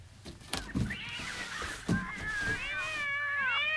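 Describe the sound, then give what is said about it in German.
Several kittens, let out of a large basket, meow in high, wavering cries that overlap and stretch into long calls, with a few soft knocks and rustles early on. The mewing is fairly loud, with no talking. “Wieder Katzen!”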